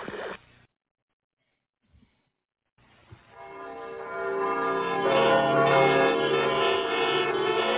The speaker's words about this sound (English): I'm speaking to you from the roof of Broadcast Building, New York City. The bells you hear ringing are to warn the people to evacuate the city as the Martians approach.